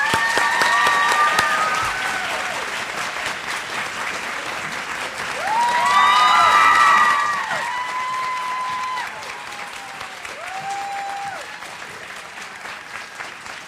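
A large crowd applauds ballet dancer Misty Copeland at an evening conversation event, steadily and loudly for the whole stretch, with scattered whoops and cheers rising above the clapping, swelling midway before easing slightly.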